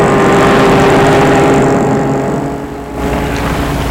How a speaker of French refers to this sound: Juste au moment, une voiture passe.